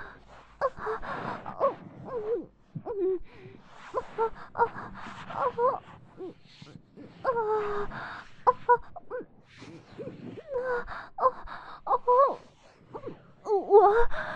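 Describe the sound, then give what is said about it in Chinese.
Breathy moans and sharp gasps repeat in uneven bursts with short pauses, the voice rising and falling in pitch. The sound is thin and tinny, from a video playing on a mobile phone. “这是手机里的视频声。因为被侵犯的身体，这些受害者的娇喘呻吟声就很大很响。”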